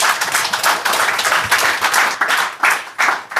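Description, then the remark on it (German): Sustained audience applause, a dense wash of many hands clapping with bursts that swell and ease, loud throughout with no voices over it. “Der Beifall gilt dir”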